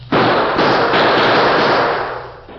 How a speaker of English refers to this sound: Faced with an advancing wall of gunfire from the Redford sheriff and a group of excited townsmen, the Lone Ranger put his own guns into action to cover a retreat.